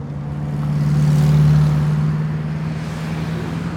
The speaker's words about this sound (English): Cars are rushing by, and a new section of the light rail is not shy about its arrival.